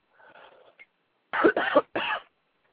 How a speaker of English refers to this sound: Excuse me for coughing on you.